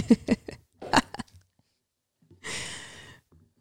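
A few quick gulping swallows from a drink, followed by a soft, breathy exhale after a short pause. No one speaks.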